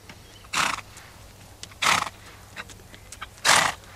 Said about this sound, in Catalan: Aquí estaràs bé. Ets un cavall fort, eh?